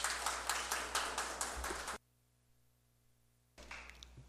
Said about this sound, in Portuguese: Aplausos.